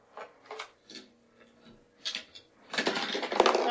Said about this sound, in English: That one crashed on the table.